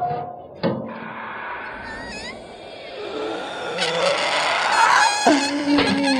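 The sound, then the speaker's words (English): The small hinged door of a green box clicks, then creaks open with drawn-out squeaky, wavering tones over a steady busy background, moderately loud, with no one speaking. “All I have to do is open the door of this green box and...”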